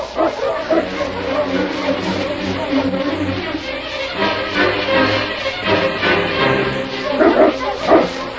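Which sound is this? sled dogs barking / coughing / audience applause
sled dogs barking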